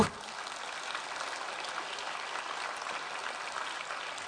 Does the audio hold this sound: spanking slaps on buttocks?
no